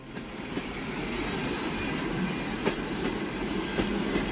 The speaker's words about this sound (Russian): Поезд подошел к Писку.